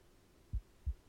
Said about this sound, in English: And can you be quiet, please? I'd like to hear your heartbeat.